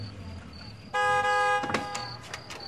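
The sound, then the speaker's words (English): A red car arrives, sounding one loud, steady horn toot that lasts well under a second, followed by softer rattling and a few brief, faint higher-pitched noises over a low background hum. “The red car arrives at Naaman's.”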